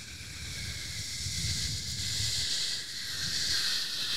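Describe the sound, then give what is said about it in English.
Voices imitate an airplane with a steady, breathy whoosh and hiss over a low rumbling hum, holding for about four seconds with a slight swell partway through. “Should we make plane noises?”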